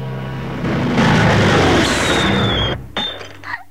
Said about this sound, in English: He dons an olive green helmet and runs for cover as a fighter plane drops a bomb.